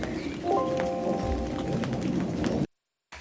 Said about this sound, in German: Jetzt müssen wir gerade mal, glaube ich, stoppen. Ihr hört gerade den Regen und wir gehen mal nach drin und ihr hört uns gleich sofort weiter.